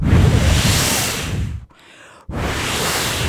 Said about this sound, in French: Un vent léger a commencé à souffler. Et un vent de plus en plus fort.